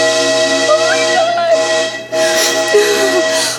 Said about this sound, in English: There's a train coming. There's a real fucking train coming.